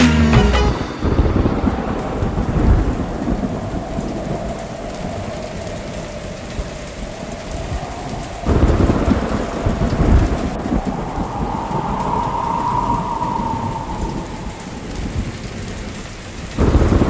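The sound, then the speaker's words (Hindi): Steady heavy rain pours throughout, with deep rolling thunder swelling loudly at several points and a faint whistling tone of wind drifting through the downpour. “सुन सुन सुन बरसात की धुन, सुन सुन सुन सुन बरसात की धुन, सुन बिजली चमकी लिपट गए हम”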